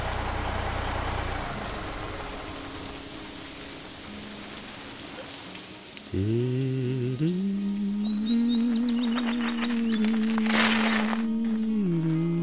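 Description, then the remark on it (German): Steady rain hisses throughout. About halfway in, a low droning hum with a steady pitch joins it and holds to the end, with faint clicks and patters on top. “Das regnet doch!”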